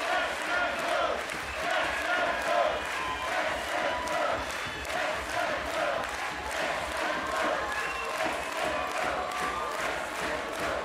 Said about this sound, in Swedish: Ja, det här är ett stort ögonblick för Visby Ladies som alltså är svenska mästare 2005. Och nu kommer det att firas länge i Visby i natt. Jag tror att hela Visby kommer att vara på fötter för att jubla åt denna triumf. Hör bara på publiken.